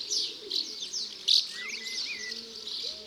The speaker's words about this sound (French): Des dizaines d'hirondelles sillonnent le ciel en lançant des petits cris. Ce sont des hirondelles de fenêtre, petites, noires et blanches.